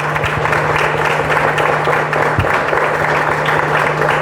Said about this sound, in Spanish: Que el aplauso está fuerte, pero tenemos que hacer un aplauso más fuerte. ¿Saben quién? Para Dios.